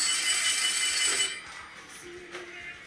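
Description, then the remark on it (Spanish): A telephone rings with a bright, high-pitched trill lasting just over a second, loud, then cuts off and leaves faint background noise; it is an incoming live call. “Bueno, tenemos ya una llamada en directo.”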